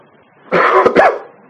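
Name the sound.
coughing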